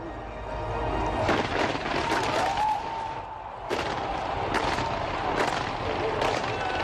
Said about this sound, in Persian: سازمان دهندگان بازی‌های المپیک با مراسم آتش‌بازی به نمایش گذاشتن انندات برزیل، استفاده از رنگ‌های مختلف و هنرنمایی هنرمندان معروف و شهیر برزیل، این بزرگترین رویداد ورزشی جهان را پایان دادند.